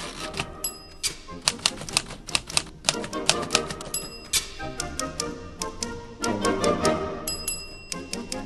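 Rapid clacking of vintage typewriter keys in quick, uneven bursts, with a bright carriage-return bell dinging several times, set against lively music underneath.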